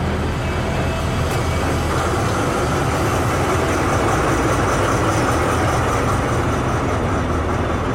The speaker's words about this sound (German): Mehrmals am Tag zieht eine Diesellokomotive Wagen voll mit Schrott in eine große Halle, die unmittelbar neben dem Stahlwerk liegt.